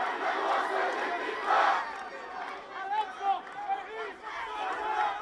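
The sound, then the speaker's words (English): An angry crowd shouts together in a dense, continuous roar of many voices, with raised cries and chant-like calls swelling and falling throughout, gathered for the funeral of 16-year-old Palestinian boy Mohammed Abu Khadir. “Today, angry crowds gathered for the funeral of a 16-year-old Palestinian boy, Mohammed Abu Khadir.”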